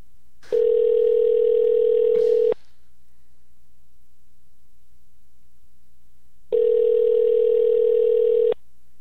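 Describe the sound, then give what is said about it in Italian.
A telephone ringback tone sounds twice before a phone interview call connects, each steady buzzing tone lasting about two seconds with a long silent pause between, loud as if heard through the handset. “Oh, finalmente abbiamo al telefono”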